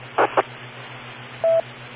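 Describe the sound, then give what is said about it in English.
A few short telephone dialing tones: two quick blips close together, then a slightly longer steady beep after a pause, all over a faint low electrical hum with no voices. “Phone call.”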